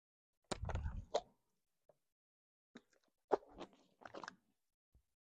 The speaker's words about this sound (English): So he's looking at them, and this is, and I'm going, let me get a drink of water, and I'm going to try to do this.